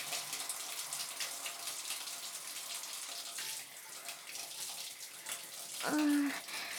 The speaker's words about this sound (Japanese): それじゃ、頭を後ろに倒してね。まずはシャワーで髪の毛のホコリとか流しちゃうよ。うわ、冷たい。ちゃんとお湯の蛇口回さなきゃ。